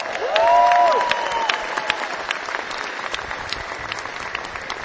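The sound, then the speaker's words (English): A concert crowd in New Zealand applauds to welcome back a musician on keyboards at a band's show, dense, steady clapping that swells at the start and then holds at an even level, with a short rising-and-falling whistle cutting through early on. “Also, I'd like you to put your hands together and give a big warm welcome back to Mr.”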